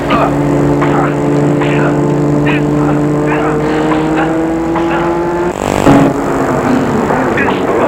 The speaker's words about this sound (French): Tout d'un coup, ils entendent le bruit d'une voiture.